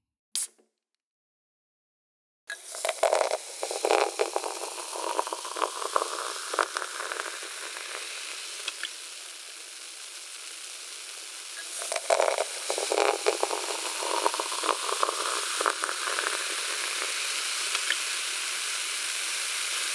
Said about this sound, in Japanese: 話していたら炭酸抜けてきました。では追加の炭酸水を注がせていただきますね。